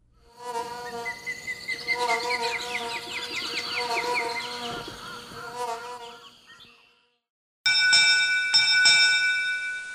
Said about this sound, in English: And we close with a few seconds of another hummingbird recording, this time from the U.S. Fish and Wildlife Service.